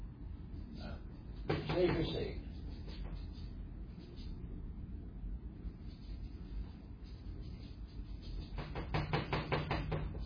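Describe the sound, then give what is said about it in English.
A wooden easel creaks and squeaks as it is handled, with a burst of scraping creaks early on and another run of rapid squeaky clicks near the end. “I want to thank Christ for building me this nice easel. This nice, squeaky easel.”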